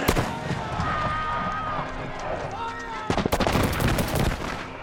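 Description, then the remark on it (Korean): British soldiers fire on colonists in 1770 Boston in a film depiction of the Boston Massacre: sharp cracks over a tumult of shouting voices, then a dense, loud volley of rapid shots bursting out in the second half. “이 과정에서 군인들이 총을 쏘고, 군인들이 쏜 총에 보스턴 시민 5명이 목숨을 잃는다.”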